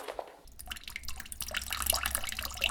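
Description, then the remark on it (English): Water runs steadily from a tap in a cold shared corridor after a brief quiet start, a continuous splashing stream with scattered drip-like plinks, no voices present. “Just imagine, to get some water, people had to go out to the cold corridor where I am.”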